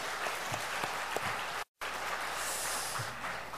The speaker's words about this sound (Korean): 얼마나 아름다워 보이는지. 우리 찬양팀 한번 박수하겠습니다. 네, 너무 고맙습니다.